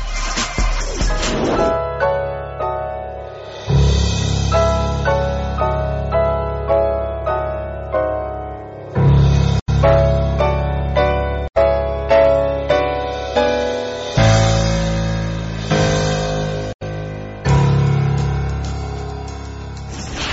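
A loud instrumental musical bridge on the radio program Momento Económico, with steady rhythmic pulses and sustained harmonic tones, repeating in short phrases with brief gaps, no voices present.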